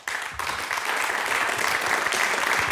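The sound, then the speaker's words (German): Steady audience applause, a dense wash of many hands clapping at once, loud and sustained from start to finish with no voices standing out. “Applaus.”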